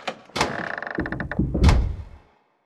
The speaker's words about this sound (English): There's a secret door behind the throne. It's opening.